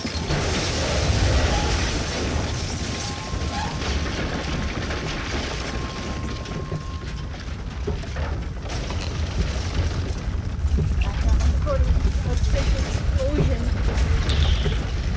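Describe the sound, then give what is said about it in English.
A long, roaring explosion effect: heavy low rumble and dense crackling debris noise that stays loud and steady for the whole stretch, with a thin whistling tone fading out partway through. “Explosion 3.5.0”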